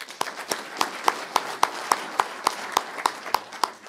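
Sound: applause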